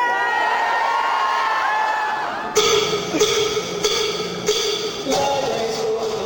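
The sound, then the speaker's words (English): A large crowd of librarians at the American Library Association's annual convention, in a huge hangar-like space in Washington, D.C., screams and cheers continuously, with high-pitched shrieks and whoops rising over a dense roar, bursts of louder cheering punctuating the steady noise throughout. “Librarians had packed the place and were screaming and cheering.”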